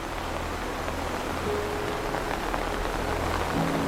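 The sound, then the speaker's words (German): Steady rain falls continuously, a dense, even hiss of drops spread across the whole clip, with a faint low hum underneath and no voices. “Und wie aufs Stichwort erscheint Herr Anderson, der einen großen, eleganten Regenschirm für dich aufhält, um sicherzustellen, dass kein einziger Regentropfen deine Ankunft trübt.”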